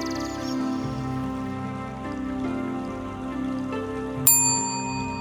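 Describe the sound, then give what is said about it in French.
A single clear bell strike rings out near the end, bright and resonant, its tone lingering and fading over a soft, steady musical drone with no talking. “Quand la cloche retentira, tu pourras ouvrir les yeux.”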